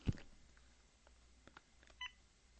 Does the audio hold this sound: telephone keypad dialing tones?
yes